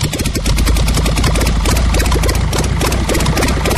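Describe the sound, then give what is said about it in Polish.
A small replica airplane propeller engine, started by turning the propeller by hand, runs steadily and loudly, its rapid rhythmic firing pulses filling the whole clip with a constant, throaty drone and no voices. “Idealnie zbliżony dźwięk do prawdziwego samolotu.”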